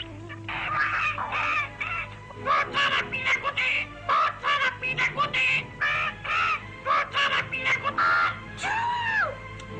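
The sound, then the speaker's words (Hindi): A parrot named Mittu squawks loudly in a rapid string of harsh, raspy bursts that continue almost without pause, over a steady low background hum, during heavy stormy rain outside. “चुप हो जाओ बदतमीज तोते।”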